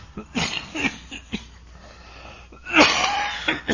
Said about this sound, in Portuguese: Me desculpem por uma tosse que tenho, todavia, mas vamos seguir adiante.